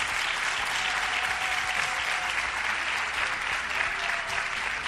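A large crowd applauds steadily, thousands of hands clapping into a dense, even roar of sound that holds at a constant loudness throughout, with no voices standing out.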